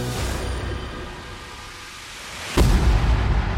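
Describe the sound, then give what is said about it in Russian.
A steady, hissing rumble suddenly gives way to a loud blast from a 58-megaton nuclear bomb explosion, followed by a sustained, heavy roar that fills the lows. No one speaks. “Взрыв был такой силы, что сейсмическая волна обогнула земной шар трижды, облако поднялось вверх почти на 70 километров, а вспышка была видна за 1000 километров.”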